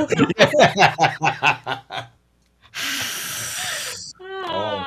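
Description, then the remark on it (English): Rhythmic snickering laughter on a radio show, then a short pause before a person imitates a possum with a loud, steady, breathy hiss lasting over a second, followed by a brief voiced sound. “What other animals can you do? Let's hear you do a possum.”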